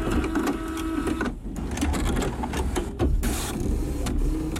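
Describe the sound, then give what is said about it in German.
A printer whirs and clatters continuously as it feeds and prints an email, with rhythmic mechanical pulses and a brief pause in the motor noise, fairly loud with no talking. “Und deswegen kommt hier frisch aus dem Drucker die E-Mail”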